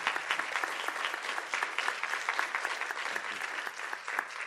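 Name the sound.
round of applause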